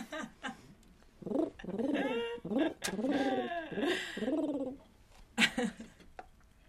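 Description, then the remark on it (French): A voice imitates pigeons cooing in a fairly loud run of warbling, bubbling coos that rise and fall repeatedly for several seconds, with a few sharp breathy bursts at the start and end. “Oui, en fait, le garage n'est pas un garage, c'est un frigo dans lequel vivent des pigeons.”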